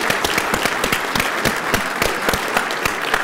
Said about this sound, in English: could any of the first-time attendees at conference please stand? All right, let's give these brave souls a round of applause.